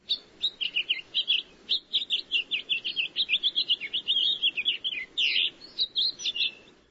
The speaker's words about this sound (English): Let's have a look, listen as well to the house finch.